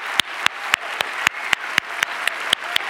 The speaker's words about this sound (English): At all the sites and all the venues, let's hear it for the people at Blackhawk Fitchburg right now. Clap so they can hear you right now.